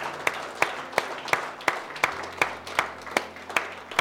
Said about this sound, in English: Can you give God a hand clap of praise this morning? Amen. Amen.